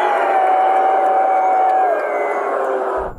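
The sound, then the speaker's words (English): A dense roar of a huge capacity crowd cheering at MetLife Stadium, loud and sustained for about three seconds with a rising whistle-like tone riding on top, then cutting off abruptly. “Oh, the capacity crowd at MetLife Stadium.”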